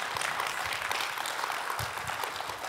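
An audience applauds, a dense, steady wash of many hands clapping at once that holds at an even level for a few seconds without any voices.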